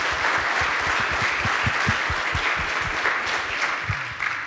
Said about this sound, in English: we can clap for them. Great. Thank you.